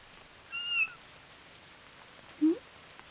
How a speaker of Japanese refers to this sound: ん？あれ？猫？どこに？ いた。 はあ、この辺じゃ珍しい。しかも子猫だ。捨て猫っぽくはないかも。この感じだと野良猫でいいのかな。ここで雨宿り中？